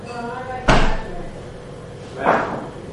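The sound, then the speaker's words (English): A fridge door opens with a sharp thud, then closes with a softer, muffled thump about a second and a half later, with faint voices in the background. “If it would be here, would it be on the door of the fridge? No, I think it's on the door.”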